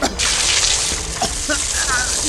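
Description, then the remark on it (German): Water gushes from a hose onto a burning stack of car tyres in a loud, steady hissing rush that starts abruptly and continues throughout, with a few brief higher-pitched squeaks near the end. “Ich hole den Schlauch! Beeilung, Onkel! Alarmstufe Rot! Scheiße, Junge! Wassermarsch!”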